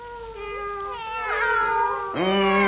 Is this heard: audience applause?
no